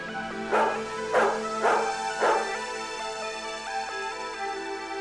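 A dog barks four times in a quick, fairly even rhythm, loud, followed by a couple of softer yips or whimpers against a steady background hum.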